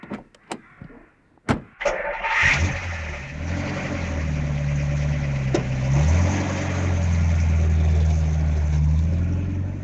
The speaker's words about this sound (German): Das heißt Abhauschach und es geht so, der Reporter setzt sich in sein Auto und haut so schnell wie möglich ab.